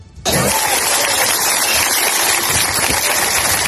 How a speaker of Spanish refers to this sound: Este es el aplauso ayer tarde del pueblo de Alpedrete en Madrid.